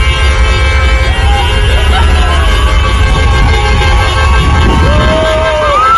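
Dense outdoor street noise in Tbilisi, Georgia: a celebrating crowd's steady babble and shouts over stopped traffic of cars with flags on their roofs, with scattered car horns honking and tooting throughout, loud and continuous.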